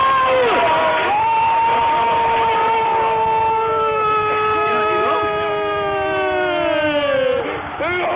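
A loud stadium crowd roars and cheers continuously after Sarabia scores for Spain against Malta, with long, horn-like tones sustained over the din, their pitch slowly sliding downward before fading near the end.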